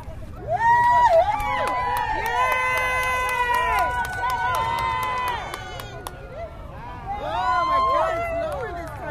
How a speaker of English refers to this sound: Gone behind the building now. Everybody is running to the other side of the building.